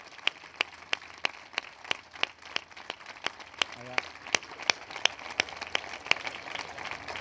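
An audience claps in steady unison, sharp crisp beats about three per second continuing for several seconds over a low murmur of background noise.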